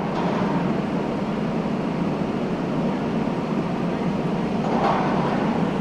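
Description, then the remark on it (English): The Times Square intersection in New York City, quiet during lockdown with cars mostly gone and businesses closed: only a steady, even wash of low ambient hum and no voices, broken just once by a faint swell of noise near the end. “That quiet street? It's Times Square in New York City.”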